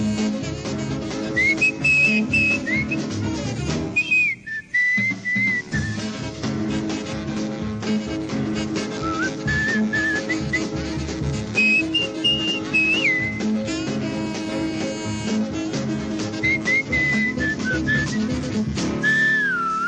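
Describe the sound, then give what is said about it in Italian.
A bright whistled melody rides over a full rhythm band of piano and horns, sounding like an old recording, the tune recurring in short sliding phrases throughout. “…. È il fischiolino, signori.”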